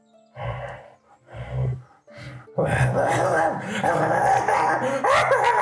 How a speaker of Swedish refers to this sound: börja skälla och morra mot er